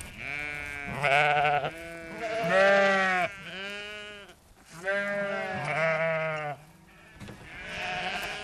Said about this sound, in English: The sheep can be a little bit skittish, you know, when they're pregnant.